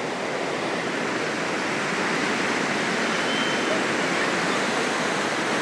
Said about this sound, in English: So here's the river. This water that comes down from the Pyrenees is fabulous.